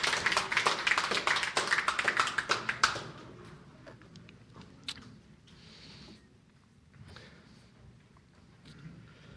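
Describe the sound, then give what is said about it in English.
An audience at a worship service applauds the children as they are dismissed to Revolution Kids Church, a dense burst of clapping for about three seconds that quickly thins out into a few scattered, fading claps and quiet rustling. “This time we're going to dismiss the kids to Revolution Kids Church, so let's applaud them as they go on to their classes.”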